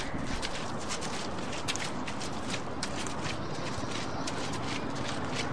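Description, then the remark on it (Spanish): Steady footsteps trudge up a muddy path leading to a house at night, each squelching step even-paced, set against a constant dense hiss of falling rain throughout. “Y subo por el embarrado sendero que lleva a mi casa.”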